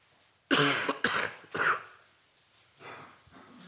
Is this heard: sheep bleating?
no